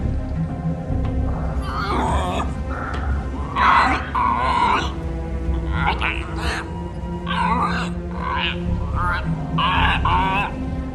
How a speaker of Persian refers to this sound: شرمنده، من زبون قورباغه‌ای حالیم نمیشه.